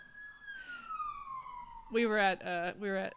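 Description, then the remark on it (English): An emergency vehicle siren: a steady wailing tone slowly slides downward, then three loud, warbling bursts blare in quick succession, growing stronger as it draws closer. “The sirens are coming.”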